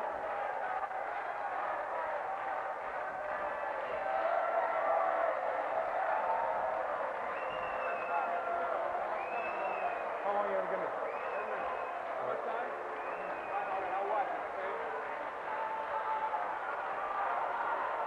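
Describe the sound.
A large crowd claps and cheers steadily for the whole stretch, a dense wash of applause and voices with a few rising whistles and shouts poking through.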